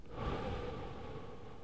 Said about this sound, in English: Breathe deeply into your diaphragm, drawing air fully into your lungs. And release the air with a whooshing sound.